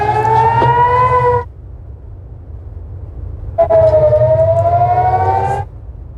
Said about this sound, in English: Air raid sirens are sounding over Israeli cities, including Tel Aviv and Jerusalem, and the booms of missiles being shot down have been heard.